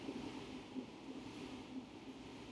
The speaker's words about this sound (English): Sorry, there's a train going by. Yeah, I noticed. It kept cutting back to me, so I was like, I should have left the window closed, but it's hot.